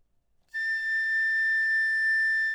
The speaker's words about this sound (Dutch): De fluit blaast daarna de A. Gevolgd door haar enthousiaste zus, de piccolo.